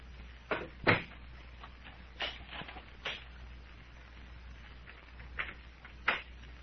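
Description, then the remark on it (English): Two doors being shut and locked: a string of sharp clunks and clicks at irregular intervals, a couple louder than the rest, with no voices over a low steady hum. “Did you lock both doors, Captain?”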